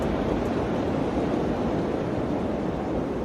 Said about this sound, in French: Un vent froid balaie le plateau montagnard. C'est un froid sec, mordant, celui d'un climat continental, dont on devine, en cette fin d'automne, que ces hivers sont sans merci. Nous sommes dans les monts Sayan, du côté russe de la frontière